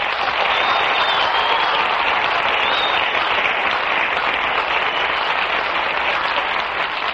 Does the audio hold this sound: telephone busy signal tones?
no